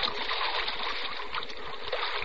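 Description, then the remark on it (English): Swiftly flowing river water rushes and splashes in a steady, continuous wash of noise, even in loudness throughout, with no voices present. “but as he looked round desperately, scanning the black expanse about him for the sight of a single struggling head, there was nothing but jet black water, flowing swiftly.”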